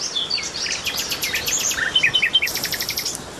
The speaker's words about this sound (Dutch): Nachtegaal, hè? Ja, man. Duidelijk, man. Ja, hier, nou hoor ik het.